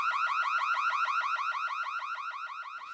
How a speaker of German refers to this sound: Wir haben nur ein Alarmgeräusch gehört.